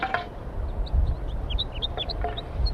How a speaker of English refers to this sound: Start recording the wild birds. Some more have joined the flock up in the pine tree. Six birds up there now, all right up at the top.